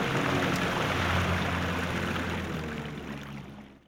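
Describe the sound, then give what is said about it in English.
A fishing boat's engine starts and churns with a steady low rumble over rushing, splashing water as the boat heads back to land, loud at first, then gradually fading away toward the end. “Start the engine. Let's get back to dry land.”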